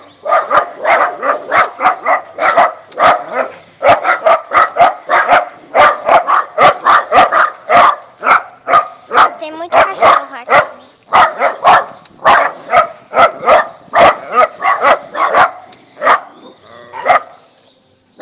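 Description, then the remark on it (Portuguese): Fierce dogs bark continuously and loudly at a front gate, a rapid volley of sharp, overlapping barks with occasional yips, barely pausing through the whole stretch. “Cachorro aqui na frente, portão.”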